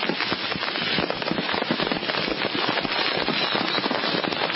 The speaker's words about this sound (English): I mean, they just pile it up and it's just... Very huge pile, and just light the whole thing. It's just fireworks going nuts.